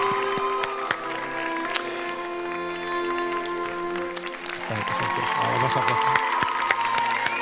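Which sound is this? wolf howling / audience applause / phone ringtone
audience applause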